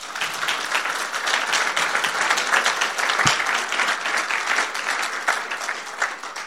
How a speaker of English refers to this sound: Well done. Excellent. I think all my readers deserve a clap.